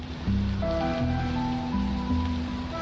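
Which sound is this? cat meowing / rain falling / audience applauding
rain falling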